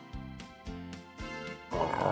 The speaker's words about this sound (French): Grrr, says the bear.